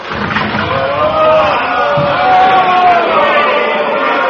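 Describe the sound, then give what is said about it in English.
A large crowd shouts and clamors together before Pilate, calling for the release of Bar-Abba, in a loud, continuous roar of overlapping voices, rising and swelling without pause for several seconds. “What are they shouting, Cornelius? For the release of Bar-Abba.”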